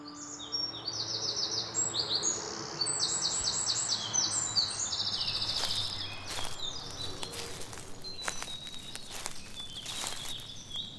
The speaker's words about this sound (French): Quelle belle journée de printemps! La journée idéale pour une promenade à travers les champs. Regardez-moi ces oiseaux ici, ces vergers remplis d'arbres fruitiers